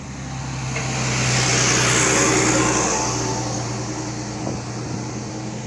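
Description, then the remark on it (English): The heavy engine of a tractor or big truck rumbles past, its steady low drone swelling to a peak and then easing off as it moves away, with no voices. “now there's a tractor coming up.”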